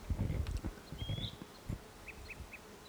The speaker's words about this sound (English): Wild bird. It's probably the same one that was giving flight calls.